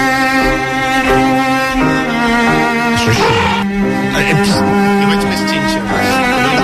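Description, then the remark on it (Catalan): Voices imitate elephant trumpeting with loud, sliding blasts over steady classical music by Schubert, the strongest cries bunched in the middle of the passage before the music carries on. “Elefants clàssics, però elefants.”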